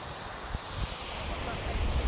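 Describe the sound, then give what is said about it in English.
Waves washing against a sea wall at high tide, a steady roar of surf mixed with gusty wind buffeting the microphone, continuous and fairly loud throughout. “So I've got my foot right on the edge of the sea wall.”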